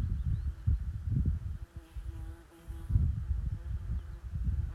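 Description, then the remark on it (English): A bee buzzes steadily, its drone swelling and fading slightly as it hovers around on open moorland, with a soft rumble of outdoor wind underneath and no voices. “As a curious bee hovers round”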